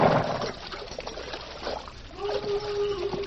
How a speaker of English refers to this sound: Well, we're in luck. There's water here. Ah, it's running water, too. Good and cold.